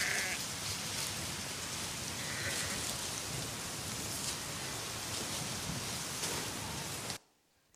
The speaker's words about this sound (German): Okay, also ihr habt das Rätsel gelöst, das war nicht schwer. Ein Schaf natürlich.